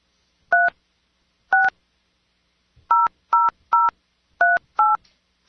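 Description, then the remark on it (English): Seven crisp telephone keypad tones beep one after another as someone dials a phone number, two spaced slowly at first, then five in a quicker, uneven run. Each is a short, clean dual-pitch beep with silence between and no talking. “Nah, there's no way they'll pick up what that phone number is because I've dialed it and deleted and dialed.”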